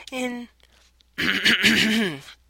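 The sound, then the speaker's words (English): A person clears their throat: a short voiced rasp, a brief pause, then a longer, louder, gravelly clearing that wavers in pitch before trailing off. No other talking. “Oh, I just need to clear my throat.”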